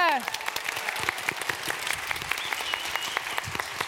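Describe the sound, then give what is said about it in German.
Audience applause as the audience is welcomed at a stage show with games: a steady patter of many hands clapping at a moderate level, dense and even throughout, with no voices standing out. “Einen Applaus bitte.”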